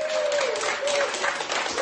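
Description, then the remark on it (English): Hospital staff applaud steadily as 90-year-old Margaret Keenan leaves hospital after becoming the first person outside a clinical trial to receive Pfizer's COVID vaccine, a dense wash of many hands clapping at an even loudness throughout, with a faint thin tone running underneath. “Staff clapped as 90-year-old Margaret Keenan left hospital, having become the first person in the world outside a clinical trial to receive Pfizer's COVID vaccine.”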